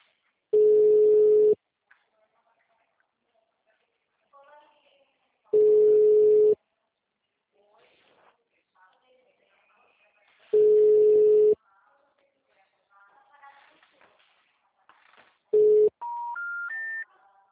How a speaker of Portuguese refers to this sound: O telefone encontra-se ocupado. Por favor, tente mais tarde. O número está ocupado.